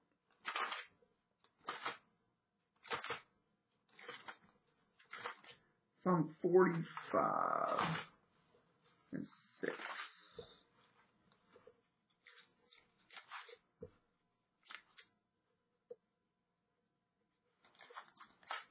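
Thin Bible pages being turned to find Psalm 45:6: a series of short, crisp papery rustles at an uneven pace, with one longer, fuller crinkling stretch partway through, then more scattered flicks.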